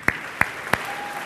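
Brief audience applause for the writer of a skit, made of just three sharp, evenly spaced claps about a third of a second apart, crisp and moderately loud, with no voices. A faint, thin steady tone lingers afterward.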